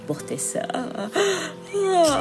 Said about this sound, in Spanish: Continuaba tendida bostezando.